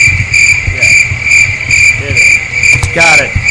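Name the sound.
crickets chirping sound effect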